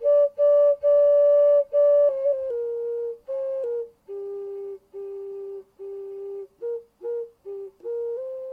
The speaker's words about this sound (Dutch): En dat is een virtuoos op de, komt-ie, neusfluit.